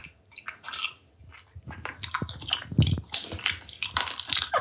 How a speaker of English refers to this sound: That's the frozen honey, I think.